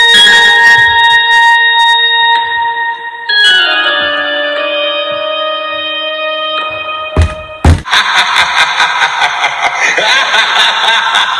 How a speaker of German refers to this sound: Zum Beispiel ein Gong, passend zu Halloween.